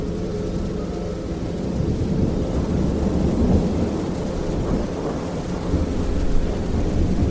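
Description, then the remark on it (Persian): A deep, rolling rumble of thunder swells and recedes over several seconds, layered with a steady hiss of rain. No voices are heard. “صدای رد و برق که اومد به خودم اومدم.”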